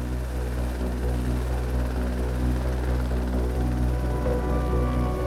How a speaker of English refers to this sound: The helicopter took off despite poor weather conditions.